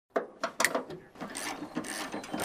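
Wrenches click sharply a few times in quick succession, then settle into a steady, rattling ratchet clatter with scattered metallic ticks, fairly loud and with no voices, as a recovery team disassembles wreckage at a B-25 bomber crash site in a small sun-seared clearing in the willows along the Tanana River near Fairbanks; birds chirp and mosquitoes buzz.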